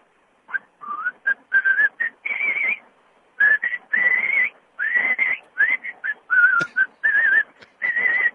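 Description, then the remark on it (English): A person whistles a lively, warbling birdlike melody in quick bursts of short, sliding notes, heard over a thin, slightly tinny phone line with brief pauses between phrases. “That's better than average whistling.”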